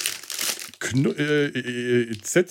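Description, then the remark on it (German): A bag of Zetti Knusperflocken, small chocolate pieces filled with crispbread, crinkles and rustles for a moment, then a person starts talking as the crinkling fades beneath their voice. “Ich habe das hier. Die Tüte.”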